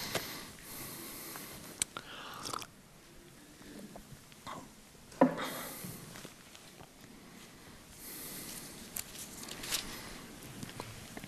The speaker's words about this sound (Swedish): Så hinner jag ta en klunk vatten också.